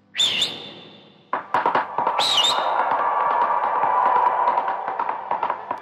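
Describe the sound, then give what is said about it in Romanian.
Two piercing, high-pitched whistles ring out, each swooping in pitch, the second after a short pause, followed by a steady droning tone and a stream of quick, uneven tapping; a long whistle made with two fingers in the mouth to call a horse. “Atunci a pus două degete în gură și printr-un fluierat prelung și-a chemat calul.”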